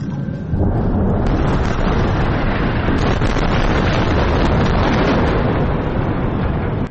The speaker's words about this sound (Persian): صداهایی که در نوار غزه متوقف نمی شود، بمباران و انفجار، و پس از آن آژیر آمبولانس ها.